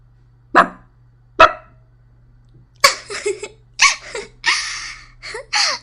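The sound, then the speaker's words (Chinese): A person imitates a dog barking on request: two short, sharp barks spaced apart, then a quicker run of rougher, breathier bark-like bursts, fairly loud with no talking. “学两声狗叫，我听听。”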